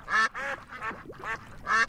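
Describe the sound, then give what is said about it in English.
Ducks quacking in a quick series of about five harsh, nasal calls, fairly loud, with brief gaps between them and no talking. “Please select one of the following screensaver options. Ducks.”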